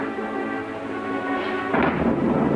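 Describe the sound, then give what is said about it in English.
A sustained tonal hum gives way midway to a loud, broad rumble of thunder that rolls on to the end, suggesting an approaching rainstorm. No one speaks. “Looks like rain. Yeah, it's stormy, ain't it?”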